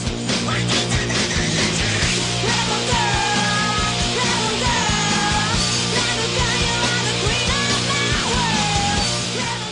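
A loud, raw punk rock song plays throughout, with driving drums and distorted guitars behind shouted, screaming vocals. The sound is dense and constant from start to finish.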